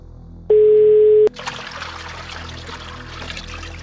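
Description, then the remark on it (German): A steady tone sounds briefly, then gives way to continuous splashing, running water, like a tap pouring into a basin in an airport washroom, heard in the background of a phone call, constant. “Sie geht davon aus, dass er sich im Waschraum des Flughafens befindet, weil sie lediglich ein Plätschern im Hintergrund hört.”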